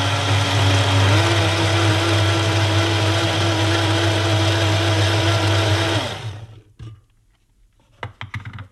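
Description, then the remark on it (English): A kitchen blender whirs loudly and steadily for about six seconds at 5:20 in the morning, blending a pre-training breakfast of granola, yogurt, apple, blueberry and grapes; its motor pitch shifts slightly early on, then winds down to near silence followed by a few faint clicks. “That's the sound of the McSharry blender going flat out at 20 past five in the morning.”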